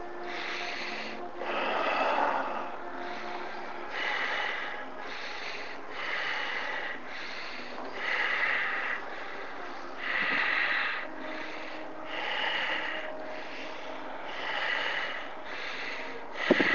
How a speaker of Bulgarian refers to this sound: Дълбоко, свободно дишане.